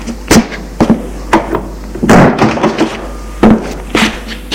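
A woman shuts a door with a series of sharp thunks and knocks, several distinct impacts spread over a few seconds, with a longer rattling clatter in the middle, no voices.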